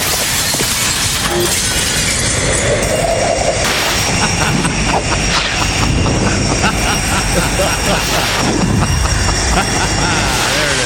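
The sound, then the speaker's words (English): Airplane window glass shatters violently over a loud, continuous roar of rushing air and jet engine noise, with crashing debris sounds recurring throughout a dense, chaotic sound effect. “Did you find a sound effect of a jet airplane window breaking?”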